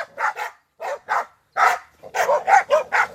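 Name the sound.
dog barking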